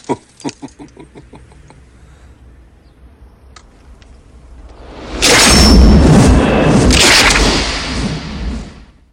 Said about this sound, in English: Van Cleef beams an evil smile as he presses the shotgun's trigger. Blood fountains onto the windscreen as shot breaks through the glass.